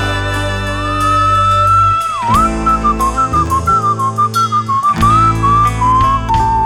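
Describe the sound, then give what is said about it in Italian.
A person whistles a lively, wandering melody, clear, over a steady musical accompaniment with bass notes and rhythmic beats, the tune continuing for several seconds without pause. “Ogni dì a fischià.”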